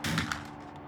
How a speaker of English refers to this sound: the Union soldiers unleash a hail of gunfire on the militia.